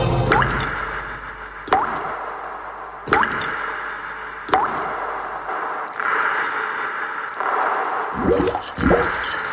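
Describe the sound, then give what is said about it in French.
Shower water, supplied by Vivendi, hisses steadily, broken every second or so by sharp splashing drips and plops, with a few quicker wet splatters near the end. No one speaks. “Après une bonne douche avec l'eau Vivendi, je me rends au centre de Nice.”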